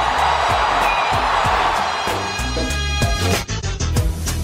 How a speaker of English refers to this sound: A game-winning home run for Chris Morrell. Can you believe it? Listen to this crowd.